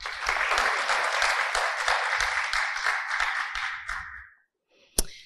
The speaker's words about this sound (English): So with just that, I would like all of us to just give a round of applause to Amakhosi for honoring us.